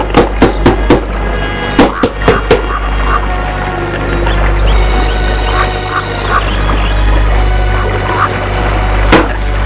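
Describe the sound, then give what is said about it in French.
Sharp wooden knocks on a door: a quick run of about four raps, a short pause, a few more, then one last knock after a stretch of steady background noise with faint tonal sounds. “Elle frappe à la porte.”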